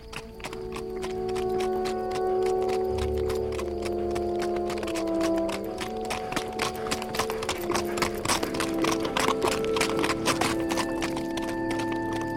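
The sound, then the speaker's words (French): A horse trots steadily on a hard road winding beside the dry bed of the Durance along a line of hills, its hooves clip-clopping in a quick, regular rhythm, with faint tonal hum and a brief low rumble beneath. No one speaks. “Le trot du cheval faisait tourner très lentement de chaque côté de la route, comme les rayons rigides d'une roue, des rangées d'arbres raides”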